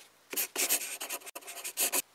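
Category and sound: tool, pencil writing on paper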